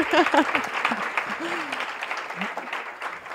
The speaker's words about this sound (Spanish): Pero aquí, mi mejor amiga, un aplauso. Un aplauso.